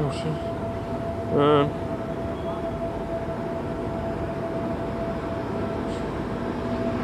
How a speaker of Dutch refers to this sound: Sorry, er komt iets langs. De tramrails worden schoongemaakt.